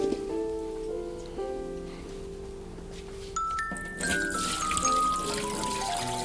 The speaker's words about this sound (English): There's a water going down the kitchen drain. Another waterfall.